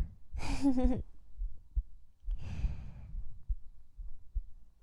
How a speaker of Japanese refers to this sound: 自分の心音聞いてたの眠くなってきちゃった。